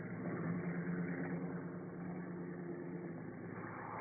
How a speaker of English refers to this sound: The sheriff's car drives away.